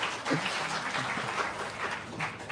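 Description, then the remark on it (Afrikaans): An audience claps for a couple's 60th wedding anniversary, a dense crackle of many hands at fairly even loudness throughout, with no voices heard over it. “Wow, dit verdien 'n ander klap.”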